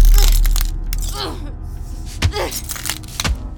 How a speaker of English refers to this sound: Against my expectations, Raya thrusted her fist against the glass, cracking it with every punch and leaving behind smears of blood.